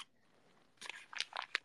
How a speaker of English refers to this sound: See, listen. This is not eating. This is the wrapping paper. Because maybe it's confusing. But you know, everything is individually wrapped.